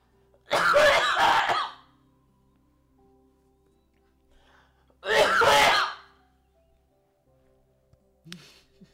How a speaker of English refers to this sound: Bless you